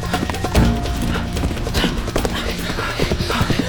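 Horse hooves clip-clop in a quick, irregular rhythm over a busy, rumbling background, with sharp hoof strikes standing out fairly loud.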